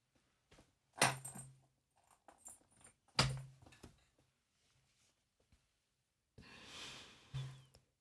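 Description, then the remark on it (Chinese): A metal chain rattles and clinks as it is unfastened: two sharp jangling bursts, a few small clicks between them, then a longer shaking rattle near the end. No one speaks. “锁链也解开吧，给我跪好说清楚。”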